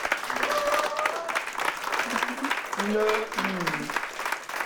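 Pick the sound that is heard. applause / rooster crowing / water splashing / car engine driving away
applause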